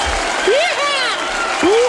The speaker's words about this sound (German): Ich zeig mal, wie so ein Applaus aussähe, beziehungsweise sich anhört. Wir klatschen mal.